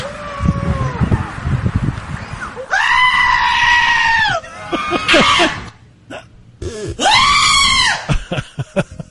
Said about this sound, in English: And that's a real goat. And, of course, I had to spend time now surfing the internet looking for other screaming goats.